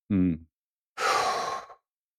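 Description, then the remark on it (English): A brief low voiced hum, then a pause and a long, deep breath released, airy and sigh-like, fading out after under a second; the person takes it deliberately after turning towards someone and dropping their arms. “So one of the things I do to bring myself present is I'll turn towards her, drop my arms, and take a deep breath.”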